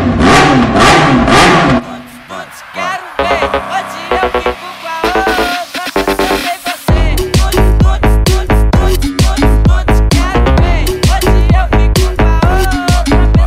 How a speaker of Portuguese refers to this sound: Poderia pedir pro teu filho parar com esse barulho da moto? Que esse inferno desse guri só está acelerando?